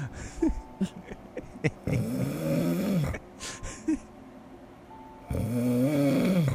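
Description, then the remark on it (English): Raspy snoring in a few long drawn-out breaths, starting with small snorts and clicks and swelling into a loud, buzzing, sustained snore at the end. No one speaks. “The snore crescendo.”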